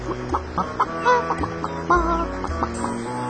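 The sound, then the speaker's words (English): A hen clucks in a quick, uneven series of short, throaty calls, moderately loud, with no one speaking over it. “My brother, don't eat me, said Hen.”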